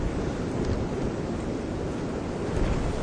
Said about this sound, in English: Oh, my stars. It stopped raining, but it's windy like the bugger here.